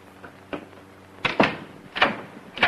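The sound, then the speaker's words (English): A man opens and shuts an office door in a shop, a short run of wooden clunks and rattling knocks with a heavier thud midway, otherwise quiet with no voices. “As he closes the door behind him, Pepe enters the shop.”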